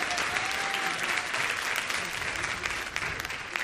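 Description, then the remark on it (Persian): A crowd claps steadily for several seconds, a dense, even patter of many hands at a consistent loudness with no voices standing out. “ماشاءالله تشویقش کنید.”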